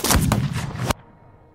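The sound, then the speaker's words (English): A loud, sharp pistol shot, fired by Aaron Burr at Alexander Hamilton in their duel, bursts out and rolls into a rumbling, roaring tail that stops abruptly, leaving only a faint hiss. No one speaks. “Burr aimed at center mass and pulled the trigger.”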